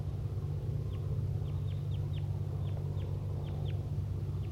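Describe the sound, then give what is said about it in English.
A dozen or so short, high clucking chirps from birds, each a quick downward blip, come in uneven bursts over a steady low droning hum. No one speaks. “All three birds engaged.”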